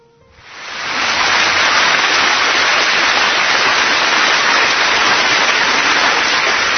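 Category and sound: crowd, round of applause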